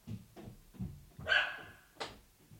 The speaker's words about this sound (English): Oh, my dog just barked.